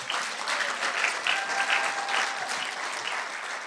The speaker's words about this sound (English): You go ahead and clap if you want.